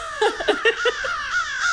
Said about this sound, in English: Yeah, get out of here, you scary birds. So corvids specifically are very smart birds.